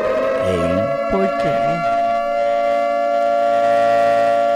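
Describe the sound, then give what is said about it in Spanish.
A loud alarm siren holds one steady, unwavering pitch for the entire clip, with a brief voice sounding over it near the start. “Porque eso no pone la alarma”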